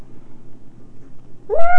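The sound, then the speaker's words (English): After a second or so of quiet background hum, a child's voice gives one short, rising, nasal meow in imitation of a cat, fairly loud, cut off at the end. “What does the kitty say? Meow. Meow.”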